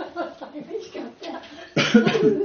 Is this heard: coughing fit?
yes